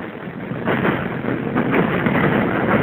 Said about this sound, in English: Here comes the subway.